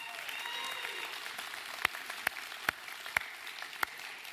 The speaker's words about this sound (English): Give our helpers a big round of applause.